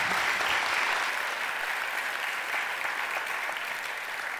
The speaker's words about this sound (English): So thank you. And let's give him a round of applause.